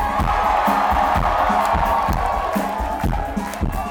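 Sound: concert audience cheering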